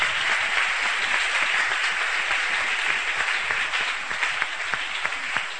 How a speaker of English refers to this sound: Are you clapping those hands?